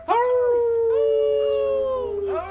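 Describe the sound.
A person howls like a wolf during a show, one loud, drawn-out wail that swoops up and holds steady before a second howl begins at the very end.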